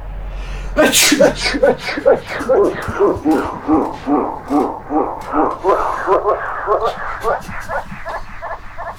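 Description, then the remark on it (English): A single sharp, loud sneeze bursts out near the start, followed by a steady run of rhythmic, pulsing vocal sounds that continue to the end. “And from that one sneeze, China caught a cold.”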